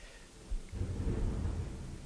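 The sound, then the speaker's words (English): Low thunder from an approaching storm rolls in after a quiet moment, swelling into a deep sustained rumble that fills the rest of the short stretch with no voices. “Yeah, I can hear the thunder.”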